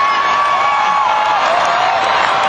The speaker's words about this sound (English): Man, I tell you what, man, they're screaming for it